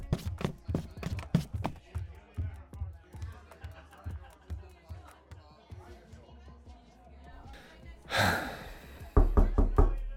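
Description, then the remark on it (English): Knocking on a door, loud, sharp raps in quick bursts at the start and again at the end, with quieter thumps and a rush of noise in between. “Open the door. Hey, it's me.”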